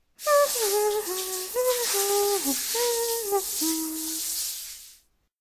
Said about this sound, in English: Stella has a shower.